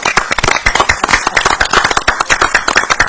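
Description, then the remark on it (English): A short burst of scattered, light applause for the staff at a council meeting, the claps overlapping in a thin, unenthusiastic patter that lasts a few seconds without any voices. “Why don't we give our staff a round of applause?”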